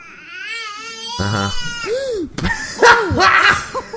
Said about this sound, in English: Fucking cat attacked the baby.